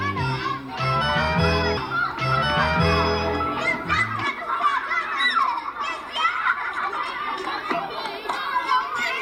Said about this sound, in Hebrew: בעצם הוא מעין מגרש משחקים ילדים, שילדים צריכים לעלות עליו ולשחק, לקפוץ, וזה גם קורה. ילדים מסתובבים סביבו, אנשים מבוגרים לפעמים מעיזים לעלות, לפעמים לא, אבל הפסל כל ערכו הוא בכך שאנשים יכולים לעלות עליו.